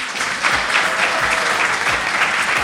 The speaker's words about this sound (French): S'il vous plaît, un applaudissement